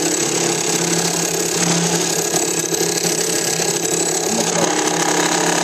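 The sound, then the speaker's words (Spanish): A bench drill press runs steadily while a piece meant to serve as a support for wood is being made, giving a loud, continuous motor hum with a whirring, whining tone and faint mechanical rattling throughout. No one speaks. “Estamos trabajando con nuestro taladro vertical, taladro de banco.”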